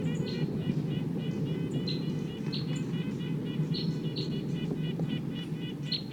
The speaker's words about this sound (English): So recording 258. Wild bird.